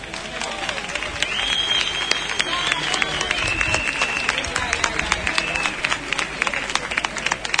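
A crowd claps steadily and loudly for several seconds, a dense rattle of many hands, with a few shrill whistles rising over the cheering, applauding a rapper from Huelva, Spain, who is coming on to perform.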